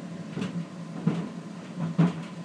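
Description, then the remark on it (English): Running shoes that got wet in the rain thump and tumble inside a running clothes dryer as they are dried, with irregular heavy knocks over a steady low mechanical hum. No one speaks. “So I thought I'd let you hear a bit of an amusing, rumbling racket in the dryer.”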